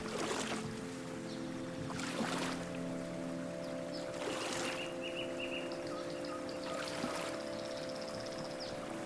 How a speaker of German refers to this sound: Doch stattdessen steigst du aufs Floß, löst mit ein paar raschen Handgriffen das Seil vom Steg und stößt dich dann kraftvoll mit dem Starkholz ab.